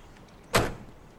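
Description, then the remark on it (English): A single sharp mechanical clunk of a truck door being opened by a man for a woman, with a brief metallic rattle that fades quickly against a quiet background. “He opens the truck door for her.”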